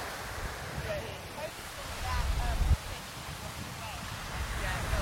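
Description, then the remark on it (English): Steady rushing wash of sea waves, with the sea coming up quickly, and gusty wind buffeting the microphone, a low rumble that swells and thumps around the middle, and faint indistinct voices underneath. “The sea's coming up at a rate of knots.”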